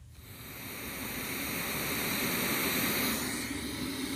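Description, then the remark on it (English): Steady white noise played from a Google smart speaker: a broad, even hiss that swells up in the first second, then holds constant and fairly loud, with no voices. “Okay, Google, play white noise sounds.”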